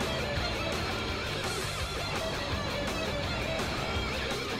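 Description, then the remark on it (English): Driving rock guitar music from a video game plays steadily and fairly loud, a dense, distorted wall of sound that never pauses across the few seconds, with no voices over it. “It sounds like, yeah, it sounds like stock truck driving music track 3.”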